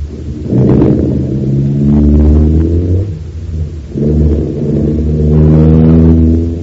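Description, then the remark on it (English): A car engine turns over and revs up loudly, its pitch climbing, dipping briefly, then climbing again as the vehicle pulls away, with no voices. “he's getting into his car. I wonder what he's up to now. There he goes, sir. All right, Danny, get it started.”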